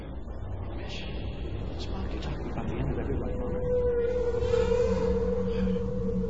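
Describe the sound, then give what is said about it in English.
A whale song: a long, steady tonal moan swells in partway through and holds to the end over a dense, rumbling wash of background noise. “Where these whales come from?”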